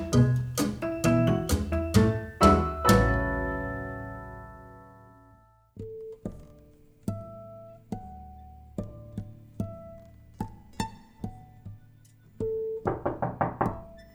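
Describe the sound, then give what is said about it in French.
A series of knocks on a door, loud and rapid at first with ringing resonance, then sparse single raps spaced apart, ending in a quick flurry of knocks. No voices are heard. “Je frappe à la porte de la pierre.”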